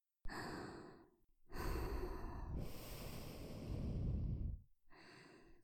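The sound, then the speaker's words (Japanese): Three airy, breathy exhalations blown right into the microphone: a short puff, then a long, rushing breath lasting about three seconds, then another brief one. No voices. “吐息を吹きかけるだけで、頭の先からおちんぽまで、先生に侵されちゃった。”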